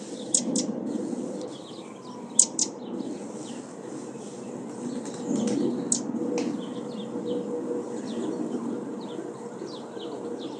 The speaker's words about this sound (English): So the path is all snowy. It's all white and lovely. Oh, sparrows everywhere.